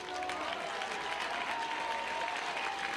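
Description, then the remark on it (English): A baseball crowd applauds pinch hitter Jonah Seegers, number 37, as he comes up to bat, a steady, dense wash of clapping that holds evenly for the full three seconds, with no one speaking over it. “And the crowd applauds Jonah Seegers.”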